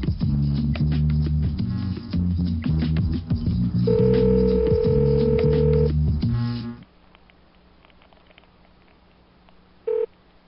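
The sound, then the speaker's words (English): Loud electronic telephone tones, a flurry of dialing beeps and a steady dial tone held for a couple of seconds, then the line goes nearly quiet apart from one short beep. “Listen, I think you hung up the phone or it broke down. What happened? It stopped.”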